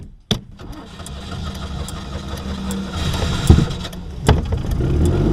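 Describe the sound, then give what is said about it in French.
A Citroën 2CV engine cranks and catches after a short start, then settles into a steady, rough idle with low rumbling and a few clunks, with no talking; the car had its rotten chassis replaced. “On est dans une de vos deux chevaux.”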